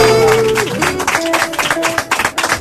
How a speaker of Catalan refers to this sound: Un aplaudiment per Carmele Marchante, que se'n va a prendre ara un arròs negre. Senyores i senyors, mentre Carmele Marchante... Podeu aplaudir, podeu aplaudir.